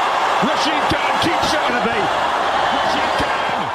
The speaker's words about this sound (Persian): با این تشویق به دلیل پیروزی تیم گجرات تیتانز در ورزشگاه